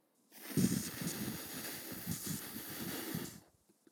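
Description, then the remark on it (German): A person blows hard and steadily for about three seconds, a breathy rushing hiss imitating wind, with slight surges in strength before it stops abruptly. “Damit es sich anhört wie der Wind, dürft ihr ganz stark pusten.”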